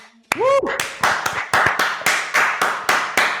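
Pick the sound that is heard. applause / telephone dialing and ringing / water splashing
applause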